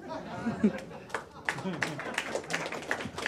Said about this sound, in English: I love that applause was like a lot of people don't know what just happened.